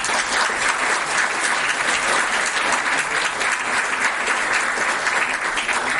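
Sustained applause from an audience, a dense steady patter of many hands clapping at an even level for several seconds with no voices on top.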